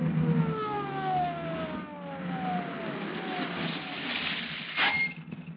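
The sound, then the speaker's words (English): A police motorcycle draws near, its engine droning steadily beneath a wavering siren that sweeps up and down in pitch, loud throughout, with no voices. “Hey, here comes a motor cop.”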